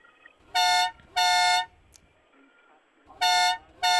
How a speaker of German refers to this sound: Eine Hupe.